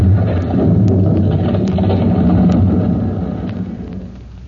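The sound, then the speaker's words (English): A building's fire-gutted interior collapses in a heavy, continuous low rumble, with sharp clatters of falling debris scattered throughout, the roar gradually fading toward the end. “Outside the building, out in the street, Chief Cody stands for a moment silent as the echoes of the falling debris die away.”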